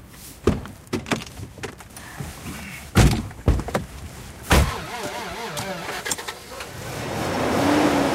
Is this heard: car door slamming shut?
yes